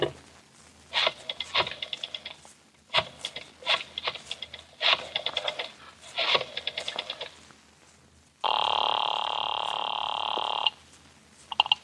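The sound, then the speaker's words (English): A desk telephone being dialed: several bursts of rapid mechanical clicking separated by short pauses, then a steady electronic tone for a couple of seconds. No one speaks. “Oh, if you want to use a phone, you may use mine right there on the desk.”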